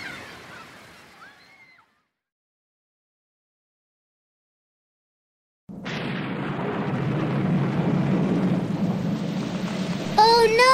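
rain with thunder

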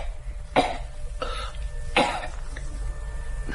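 coughing

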